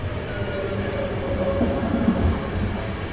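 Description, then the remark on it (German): A train rolls into Zürich station on platform 8, shortly after 10 o'clock and about an hour late, with a steady low rumble and faint rattling of the carriages, continuous throughout with no voices. “Ankunft in Zürich auf Gleis 8. Es ist kurz nach 10. Der Zug hat ungefähr eine Stunde Verspätung.”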